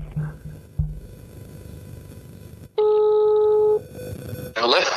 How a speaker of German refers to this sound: Ich rufe ihn jetzt einfach mal an. So, jetzt probieren wir das mal. Das wird doch hundertprozentig wieder funktionieren.